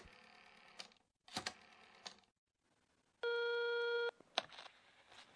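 A few sharp clicks and handling knocks, then a single steady electronic telephone ringing tone lasting about a second as a phone call is placed, followed by another click. No one speaks.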